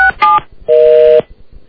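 telephone keypad dialing tones

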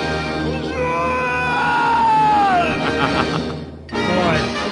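cartoon character screaming

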